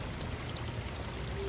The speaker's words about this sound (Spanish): Escucha, escucha, escucha. Tal vez sea un manantial de agua dulce o el aguacero en un exuberante bosque tropical.